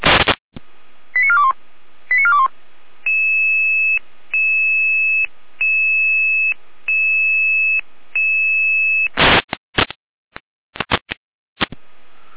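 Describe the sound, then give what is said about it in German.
A series of electronic alerting tones from the Jena dispatch center over a radio channel, alerting units to a suspected apartment fire in Rudolstadt: short steady tone bursts repeating in an even pattern, framed by bursts of static and clicks at the start and end, with no voices. “Leitstelle Jena mit Alarmierung.”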